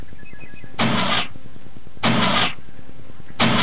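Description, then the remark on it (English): An engine cranks but won't catch: three short, loud bursts of grinding starter noise, each about half a second, separated by brief pauses filled with a low rhythmic chugging. No one speaks. “Arye, you can stay outside while I start up the engine.”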